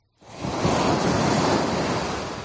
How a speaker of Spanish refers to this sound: Exactamente. Son las olas en la playa de Poniente, en Gijón, donde un jabalí ha sido sorprendido pegándose un buen chapuzón.